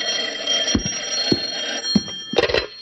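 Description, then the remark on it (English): A telephone bell rings steadily and loudly throughout, a continuous metallic jangle, with a few dull low thumps scattered underneath. No one speaks. “Will you answer it? I think it's Helen.”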